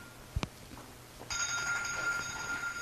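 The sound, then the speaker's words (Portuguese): A telephone rings with a steady, high electronic tone that starts abruptly after a couple of brief knocks and continues to the end, moderately loud. “Desliga o telefone.”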